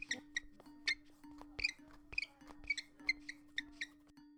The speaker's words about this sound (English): the skeleton, has his squeaky shoes on.